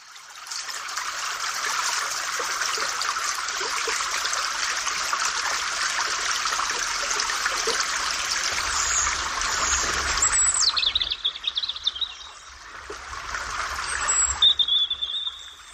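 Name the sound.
babbling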